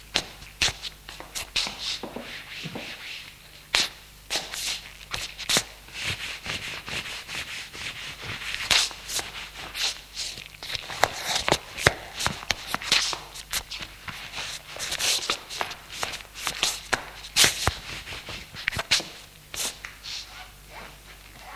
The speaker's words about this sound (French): Couché en slip, prend ses habits qui sont sur une chaise et s'habille.